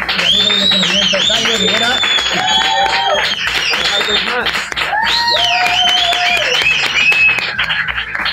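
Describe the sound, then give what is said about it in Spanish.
A crowd applauds loudly and continuously for several seconds at the close of the show La Hora Fenomenal, dense clapping mixed with cheers and raised, whooping voices riding over the top. “Eva Gamayo, aplauso grande.”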